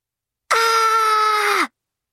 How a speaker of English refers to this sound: That was me screaming in frustration. I can't believe I overslept again.